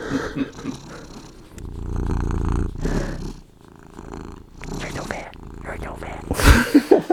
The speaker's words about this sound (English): I'll crank my mic and get his growl. That's a happy cat. That's a very minimal purr. He gets like a thing going sometimes. He sounds like an old smoker.